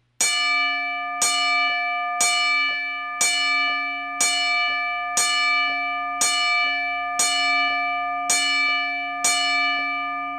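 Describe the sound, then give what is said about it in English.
A ten-bell salute for the late wrestler Razor Ramon: a single bright bell struck ten times at a slow, steady pace, each loud ring sustaining and overlapping the next. No voices. “So we're going to give him the salute that every wrestler gets when they leave this plane.”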